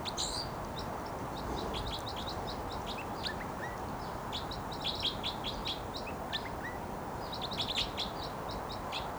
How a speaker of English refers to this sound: Flight song there by the wild bird who's vocalizing. And he just moved to another perch. And this is still that wild bird who gave the flight song.